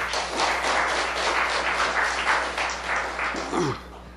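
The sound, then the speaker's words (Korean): An audience claps for a teacher after a lecture, a steady burst of applause lasting about four seconds, dense and even, then tapering off quickly at the end as a brief voice cuts in. “훌륭한 강의를 해주신 선생님께 박수 부탁드립니다.”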